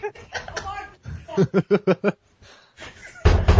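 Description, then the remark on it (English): Five quick, evenly spaced knocks on a locked door rap out in a steady burst, with talking before and after and a loud rustling noise near the end. “I locked the door, you jackass”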